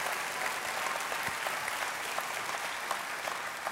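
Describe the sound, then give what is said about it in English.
Steady, dense applause from a church audience praising God after a 71-year-old man gave his life to Jesus, a continuous wash of many hands clapping at an even loudness with sharp individual claps poking through, and no voices. “Hey, you can't patty cake and golf clap for stuff like that. Somebody give God praise.”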